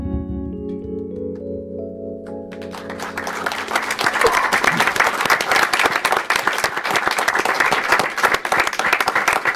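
A live band's final sustained musical chord fades as an audience bursts into loud, dense applause that swells and continues steadily, with no talking over it.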